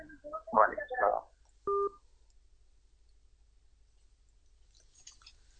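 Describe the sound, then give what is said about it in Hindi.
A brief burst of handling or muffled noise, then a single short electronic phone beep like a keypad or call-end tone as a mobile phone call is ended, followed by near silence. “मैं आपसे माजरत चाहूंगा कि मैंने मोबाइल बंद कर दिया।”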